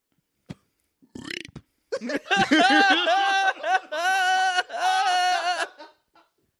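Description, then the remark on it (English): A long, croaky burp stretched into a drawn-out voiced word, loud, with a brief click and a breathy puff before it and a short gulp at the start. “It's the funniest one to burp.”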